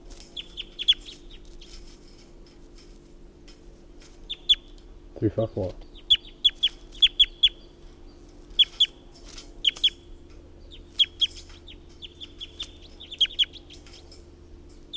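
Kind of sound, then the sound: bird, chicken clucking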